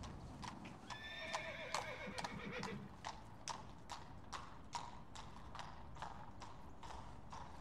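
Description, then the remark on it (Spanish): A horse's hooves clip-clop in a steady, even rhythm of sharp knocks throughout, with a brief whinny rising over the hoofbeats near the start. “¡Caballo!”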